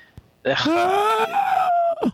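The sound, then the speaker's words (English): A voice imitates the creepy scream of a pod person, drawn in on an inhaled breath, rising then holding a thin wavering pitch for about a second and a half before breaking off with a short gasp. “And the only way to simulate it would be if you were to like scream while sucking in air.”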